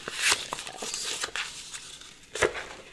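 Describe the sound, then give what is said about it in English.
Crinkling and rustling of packaging as a package sent from Australia, holding coins, enamel pins and tokens, is unwrapped, with irregular sharp crackles and tearing bursts scattered over a few seconds, no voices. “Oh, I haven't opened it yet. Can we open them up?”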